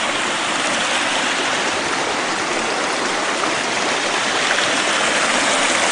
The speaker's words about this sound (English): And as we go down the creek here, you'll see we're going to put other little statues in here and things.